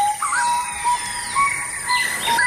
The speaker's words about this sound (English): It appeared suddenly, and the biologists say, "Oh no, a ferruginio." So they stepped out of the car and recorded it, and he starts. Fa-ba-da-da. That first note is the owl.